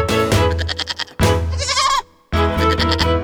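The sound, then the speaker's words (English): Goats bleat loudly in a field on a farm, three long wavering cries in a row with a short gap between each, and no one speaking. “Where are the goats? They're in the field.”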